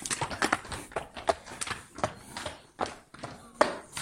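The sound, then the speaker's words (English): Six horses, Reggie, Remus, Bowler, Trojan, Casper and Jim, shift about in dewy fields, hooves clopping in an irregular scatter of sharp knocks and scuffs, some louder than others, with faint rustling underneath. “6 contented horses are quietly dozing in the dewy fields.”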